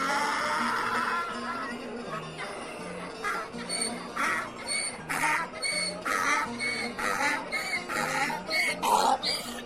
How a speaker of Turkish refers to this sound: Tam ağzını açacakmış ki daha ilk hecesinde eşek yine uzun uzun anırmış.